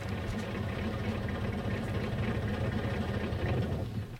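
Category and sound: vehicle, truck engine idling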